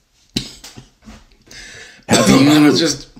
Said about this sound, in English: I got a bit of a cough. COVID-like symptoms.